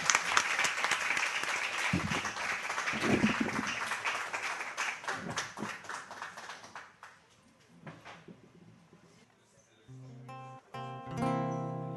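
An audience at an evening sarau breaks into dense, steady applause welcoming a singer-songwriter for a guest performance. The applause fades after several seconds, and a few sustained instrumental notes begin to play as the clapping dies away.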